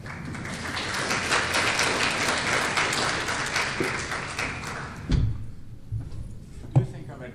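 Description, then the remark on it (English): An audience claps at the end of a talk, a steady, dense, even patter for about five seconds, then the applause quickly dies away, leaving a few scattered soft knocks and thumps. “Talks for which you need to clap, but a working group for which you need to ask questions.”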